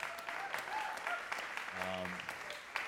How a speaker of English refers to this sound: Thank you so much for being here, of course. And thank you to Voice Coils for having me out. Big round of applause at a time for Voice Coils, right?